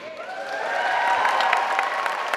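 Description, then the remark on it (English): A crowd applauds steadily with a dense wash of clapping, while sustained whoops and cheers rise above it, all fairly loud and continuous, at a religious freedom rally filling the rotunda of the Missouri State House. “An enthusiastic crowd filled the rotunda of the Missouri State House this week, pledging to fight back against what they see as an assault on long-held religious beliefs.”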